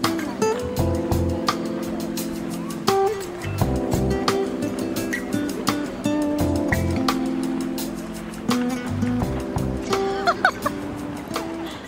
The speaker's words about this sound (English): At a lovely beach park